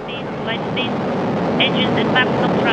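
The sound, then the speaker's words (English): A dense, steady roar of rocket engines at the 2015 liftoff of Soyuz TMA-16M, carrying Kelly, Kornienko and Padalka towards the International Space Station. It fills the whole clip, loud and unbroken, with faint bursts of voice chatter riding on top. “And liftoff.”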